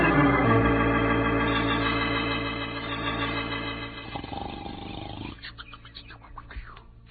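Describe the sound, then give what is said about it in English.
A long, loud, rumbling snore from the character Pancho, with a deep, buzzing rasp that holds for several seconds before trailing off into softer breathing and faint rustling. “Snores of yours are shaking the whole earth.”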